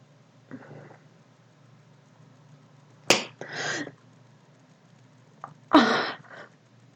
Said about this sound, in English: Go on. Slap my clit.